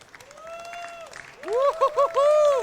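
Audience applause as a presenter joins the speaker on stage, a steady wash of clapping joined by rising and falling vocal whoops and cheers that grow louder and more excited toward the end.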